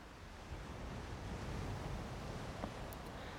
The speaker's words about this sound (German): Ich lausche den zarten Wellen, die sich langsam am Ufer auflösen.